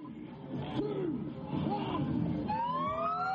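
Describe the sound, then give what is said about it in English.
Sirens wail with rising, sweeping tones over a steady wash of traffic and street noise as the first cars cross the reopened border from New South Wales into Victoria, Australia, growing clearer and louder toward the end as a higher siren climbs in pitch. “Sirens ring out as the first cars cross the border from New South Wales into Victoria, Australia's two most populous states.”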